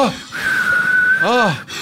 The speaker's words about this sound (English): It's so beautiful whistling. It's beautiful.